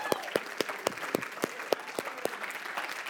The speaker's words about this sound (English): So, can we have one more round of applause for my cake volunteers, please?